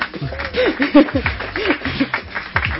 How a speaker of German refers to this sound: Danke an den Webmaster, der heute Abend hier ist. Applaus für den Webmaster, bitte.